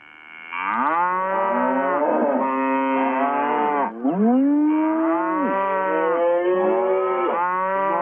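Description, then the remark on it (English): A cow moos loudly in long, drawn-out bellows, two sustained calls with a brief break between them, and no other sounds or voices. “Can I get a deck of moo?”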